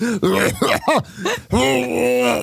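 A voice, loud, makes a few quick throat-clearing coughs, then a drawn-out, voiced groaning hack, like a staged coughing fit.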